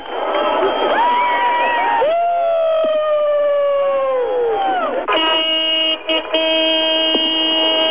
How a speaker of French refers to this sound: Et c'est la ruée. Des centaines de voitures, des milliers de gens à pied se présentent au point de passage du mur où je me trouve dans un concert d'avertisseurs et de cris d'allégresse.